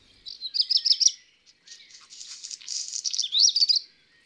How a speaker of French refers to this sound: Le merle noir.